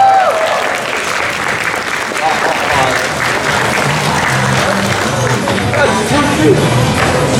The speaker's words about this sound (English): Thank you, round of applause for me.